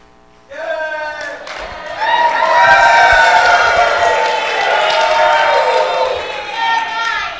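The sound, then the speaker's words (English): A live audience erupts in wild, loud, sustained cheering and whooping as a welcome as the show Angel Talk goes on the air, with high-pitched shouts layered over a dense roar that swells after a sudden start and holds steady for several seconds. “We don't usually accept wild cheering from our live audience, but this is a special occasion.”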